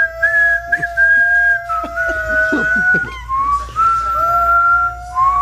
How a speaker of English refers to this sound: It sounds like a dying dog and me whistling as it's dying.